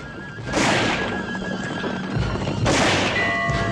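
Horses neigh loudly and shrilly, two long whinnies, over a rough rumble of hooves as riders gallop off on the waiting horses.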